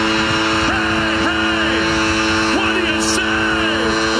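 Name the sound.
foghorn blast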